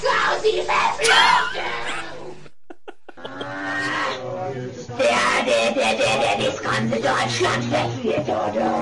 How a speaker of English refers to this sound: An unaltered cat, you grab it right by the balls. That sounds like a pissed off cat. Sounds like a demon to me.